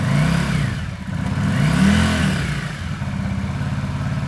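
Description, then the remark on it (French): A motorcycle engine revs up twice, its pitch rising and falling, then settles into a steady rumbling idle. Loud, with no voices. “Un bruit de moto.”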